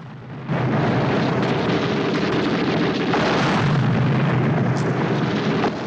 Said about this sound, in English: Harker and his men jog up a pathway towards the cliff top and see some more German tanks up ahead. They run for cover as shell explosions burst all around them.